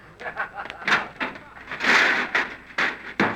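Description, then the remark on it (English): Shuffling and clattering as a load is dumped in the back seat give way to a car door slamming shut twice in quick succession near the end as people get in the car, sharp, with faint muffled voices underneath. “Now just dump it in the back seat there. There we are. Now let's get in the car.”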